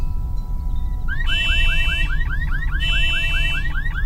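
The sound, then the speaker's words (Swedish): A Mercedes-Benz G-Class (Geländewagen) car alarm wails as the car's lights flash, launching after a second of low rumble into rapid, repeating rising whoops with bursts of harsh, hissing tone, loud and continuous to the end. “Bilen blinkar, tjuter.”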